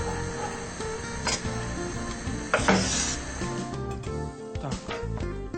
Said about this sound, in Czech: Aby se ten olej, který na to dáme, pořádně rozpálil a budeme smažit cibulku. Olej můžeme dát hodně, protože je to pomazánka, aby byla vláčná.